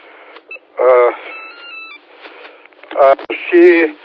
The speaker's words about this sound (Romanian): Uite, îmi sună un telefon.